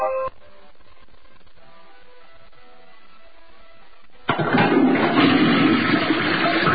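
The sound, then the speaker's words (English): A few seconds of faint, quiet tones give way to a toilet flushing: a sudden loud rush of swirling water that keeps roaring steadily to the end. “Hear that? That's the sound of nearly 3 million American jobs being flushed down the toilet.”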